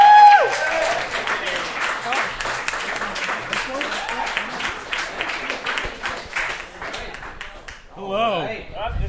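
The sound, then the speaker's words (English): An audience at Second City applauds the first guests, the hosts of the Late Live Show, in a steady, dense patter of many hands for several seconds, then the clapping tapers off as a voice begins speaking at the end. “Please clap, everybody.”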